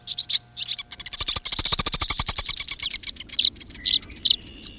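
Dozens of birds swirling overhead in pursuit of insects chatter and twitter at once in a dense, continuous flurry of high, rapid chirps, with brief sharper calls standing out above the rest.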